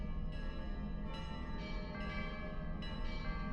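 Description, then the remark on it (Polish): An archival recording of old monastery church bells ringing loudly and steadily, struck about four times in quick succession, each heavy clang overlapping the long, humming resonance of the last. No voices are heard. “To dzwony z nagrań archiwalnych. Dawnych klasztorów.”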